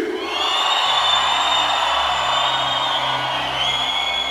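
An audience, asked to make the loudest noise in the world, roars and cheers loudly and continuously, a dense wash of shouts and whoops with a few higher sustained yells riding on top.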